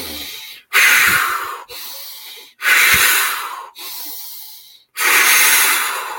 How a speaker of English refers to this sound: Take a couple deep breaths of what we do in the breathing, but do it quickly, in through the nose, now through the mouth, three times.